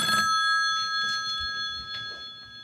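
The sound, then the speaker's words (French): A telephone rings in a doctor's consulting room with a steady, high electronic trill that holds throughout, clear, with no voices over it. “La patiente commence à se déshabiller, quand le téléphone sonne.”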